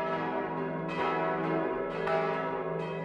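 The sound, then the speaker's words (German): The five bronze bells of St. Sebastian parish church in Waldershof, cast in 1946 by bell founder Karl Hamm of Regensburg, ring out a Sunday midday peal for the church's 50th consecration anniversary, with repeated strikes every half second or so over a dense, sustained wash of humming, shimmering overtones. No voices are heard. “Das Mittagsläuten aus Waldershof”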